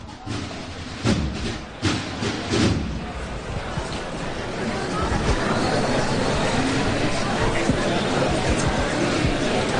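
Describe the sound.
Street ambience from the Realejo during a brotherhood's procession, with a steady wash of crowd chatter and indistinct voices, a few brief clatters early on, then a dense, even murmur filling the rest.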